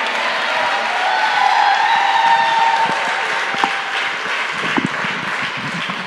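An audience applauds steadily for several seconds, a dense wash of clapping that stays fairly loud throughout, with a few sharper individual claps standing out near the end.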